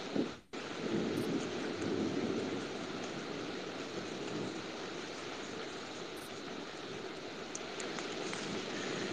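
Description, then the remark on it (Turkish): Steady, dense hiss of heavy rain pouring continuously, loud, with a broad roar filling the whole clip after a brief dip at the start; no one speaks. “Yağmur yüzünden tam duyulmuyor ama.”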